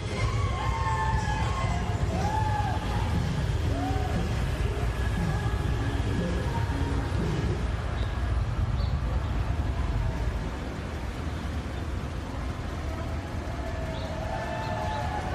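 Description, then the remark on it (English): A steady, dense rumble of a city traffic jam and gridlock in Washington, DC, fills the whole scene, with sirens wailing and sweeping up and down in pitch over the idling noise, and no one speaking. “He gives us a view of one of the traffic jams caused by these people.”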